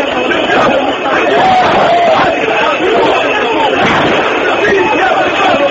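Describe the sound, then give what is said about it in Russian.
A large street protest crowd in the capital Tripoli, Libya, roars continuously, many voices shouting and chanting over one another in a dense, loud, unbroken wall of noise with occasional rising cries. “Активные акции протеста продолжаются и в столице Триполи.”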